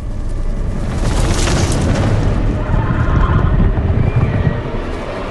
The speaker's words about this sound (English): They both look toward the noise. The ground trembles. A shockwave ripples toward them through the undergrowth.